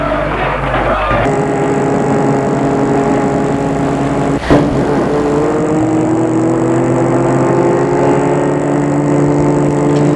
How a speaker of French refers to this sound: Il a fait entrer dans la voiture et la met en route.